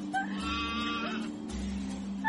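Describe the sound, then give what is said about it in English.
A person imitates a goat's bleat, a wavering, nasal cry held for about a second, fairly loud against a steady low hum, with no talking. “making goat noises”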